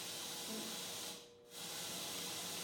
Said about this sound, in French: Et voilà, ça c'est le même bruit blanc qui est envoyé sur toutes les enceintes.